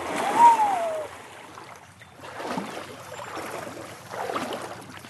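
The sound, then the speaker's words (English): A swimmer dives headfirst off a sandy shelf into the cool, breeze-rippled water of Lake Champlain with a loud splash, then water sloshes and churns in two softer bursts as they move through it. “She goes in headfirst.”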